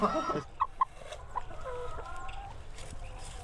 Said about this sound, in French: C'est pas trop bruyant, les poules ? Parce que moi, je sais que dans un poulailler, une poule qui pond, elle chante. Quand une poule chante, tout le monde lui répond.